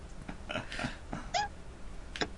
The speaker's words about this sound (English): Sound like a dog. Yeah, sound like a dog.